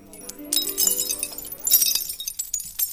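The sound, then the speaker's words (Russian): A pane of shop-window glass from a Jewish building in Berlin shatters on the night of 9 to 10 November 1938, with a bright, sharp, loud crash, followed by scattered tinkling shards and clinks that continue for a couple of seconds. “На других снимках покинутый Берлин и сверкающее на солнце битое витринное стекло.”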